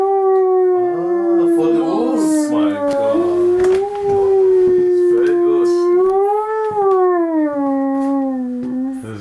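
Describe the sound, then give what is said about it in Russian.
A long, wavering howl blown on a hunting call by a hunter demonstrating it to guests, imitating a wolf, rising and falling in pitch for several seconds, loud, with faint background murmuring beneath it. “Я заспеў гаспадара, калі той дэманстраваў гасцям паляўнічыя амаль музычныя інструменты.”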